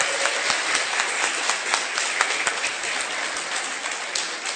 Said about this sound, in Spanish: Que se oiga fuerte el aplauso, por favor.